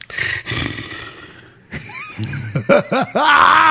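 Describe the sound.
A person imitates a tiger with growling, roaring vocal sounds, rising in a few rough bursts before ending in a loud, sustained snarl.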